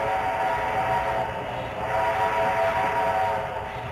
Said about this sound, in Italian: Si sta comodi su questo treno, anche se è dell'Ottocento, si viaggia bene, ma tra poco arriviamo alla destinazione.